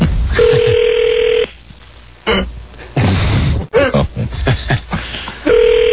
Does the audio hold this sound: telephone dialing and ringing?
yes